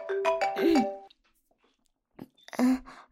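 A phone ringtone plays a bright, tonal melody in two bursts: a longer phrase of steady pitched notes, a brief pause, then the tune starts up again loudly.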